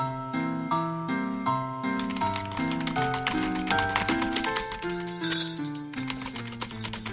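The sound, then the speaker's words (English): Rapid, steady typewriter clacking of an editor typing up the day's top news story in the office of the La Mesa Scout, January 1911, mostly beginning a couple of seconds in, runs over a soft melodic music bed, with one sharper, louder strike partway through. “So without further ado, we begin our presentation with a dateline of January 1911 in the office of the La Mesa Scout, where editor Wiley Magruder is hard at work typing up today's top news story.”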